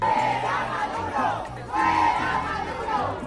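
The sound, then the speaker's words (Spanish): A large crowd in Venezuela shouts in unison, calling for Maduro's resignation on an election day, a rhythmic chant rising and falling in two loud waves over steady low hum and scattered voices. “Los gritos pidiendo la dimisión de Maduro han sido la banda sonora de un día en el que el gobierno venezolano había prohibido cualquier tipo de manifestación y reunión hasta el martes.”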